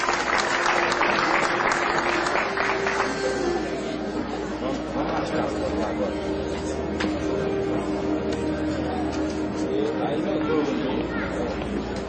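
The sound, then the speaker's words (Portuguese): An audience breaks into steady applause for people honored with the title of cidadão forrosense and the Itiquira merit commendation, the dense clapping loudest in the first few seconds and then continuing evenly, with a low sustained hum and faint crowd murmur underneath. “Uma salva de palmas.”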